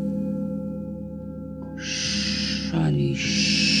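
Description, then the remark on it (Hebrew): A snake named Kundalini hisses in a cave in two long, sharp bursts separated by a short low vocal sound, loud above a steady low background hum. “שאני כאן, מה צריכה? לחש, הנחש.”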